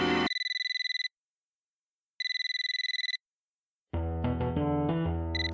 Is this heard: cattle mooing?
no